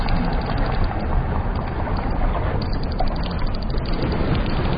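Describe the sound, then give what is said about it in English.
A dense cacophony of whale clicks underwater far out in the Atlantic Ocean, rapid overlapping ticks crackling steadily and loudly throughout, with no voices present. “Far out in the Atlantic Ocean, a cacophony of clicks announces return of titans.”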